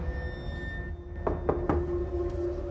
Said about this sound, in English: Jake knocks on the door of Sharp's office with Kate in tow.